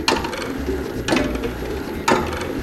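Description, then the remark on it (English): The mechanism of the Chronophage, a time-eating clock created by Dr. John Taylor and displayed at the Science Museum, ticks: three sharp metallic clicks spaced about a second apart, each with a brief ratcheting rattle. A low steady hum sits underneath and no one speaks. “We'll be hearing about a time-eating clock called the chronophage, the creation of Dr.”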